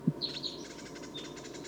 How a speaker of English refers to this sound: The decoys are calling.